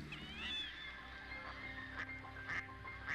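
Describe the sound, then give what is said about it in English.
Ducks quack in short, repeated bursts, several calls overlapping over a steady low background rumble, with no voices present. “even if it's just for a few fleeting moments as they call out a greeting and pass overhead”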